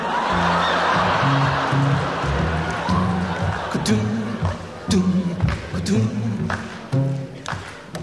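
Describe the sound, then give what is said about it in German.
Scattered hand claps from an audience, clapping instead of the finger snapping they were asked to do, ring out over a noisy crowd, uneven and loose rather than in rhythm, with voices and humming tones underneath. “Schnippen, habe ich gesagt, nicht klatschen.”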